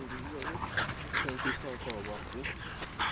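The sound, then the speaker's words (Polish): Dogs bark and yip repeatedly in an open outdoor dog park, with a steady murmur of voices and ambient noise underneath. “I tak, naprawdę nieważne, niezależnie od pory roku, od godziny, zawsze można zobaczyć kogoś z psem rzucającego piłkę. Po prostu dzieci tam bawiące się z psami.”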